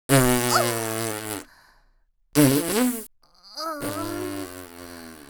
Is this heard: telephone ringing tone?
no